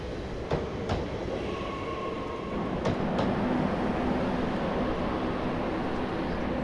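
A train rumbles steadily along the rails with a few spaced clacks over track joints and a faint whining tone as it slows on entering Narbonne station in France, to stop at the platform sign for seven cars. No voices are heard.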